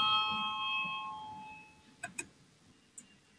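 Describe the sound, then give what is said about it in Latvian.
A parliamentary voting bell, rung to call a vote on an amendment proposal, rings with a steady, bright metallic tone that fades out over about two seconds, followed by a few sharp clicks. “Lūdzu zvanu, balsosim par 35.”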